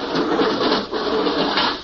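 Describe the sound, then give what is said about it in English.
A steady mechanical whir and rushing hiss as an outer airlock door opens, loud, holding an even, slightly pulsing drone for a couple of seconds with no voices. “There goes the outer door.”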